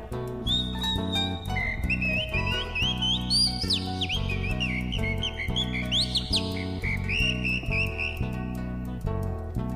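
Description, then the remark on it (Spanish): A bright whistling song imitating a calandria (mockingbird), with chirpy rising and falling slides and quick trills, plays loudly over steady instrumental music for the whole stretch. “Silba la calandria.”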